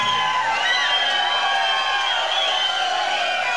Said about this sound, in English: The crowd let out a mighty roar as the contestants hit the floor.